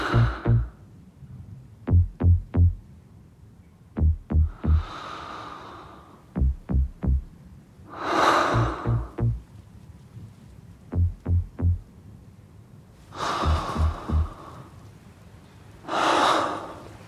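Heavy, labored breaths and gasps of the main character, an AIDS patient on a hospital bed in the film 120 BPM (120 battements par minute), mixed by director Robin Campillo into a house track; they rise and fall every few seconds, woven between clusters of deep, punchy electronic beats that thump in quick groups of three.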